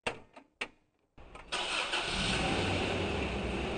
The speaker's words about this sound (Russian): Мы сели в автомобиль, и машина медленно двинулась вверх по дороге.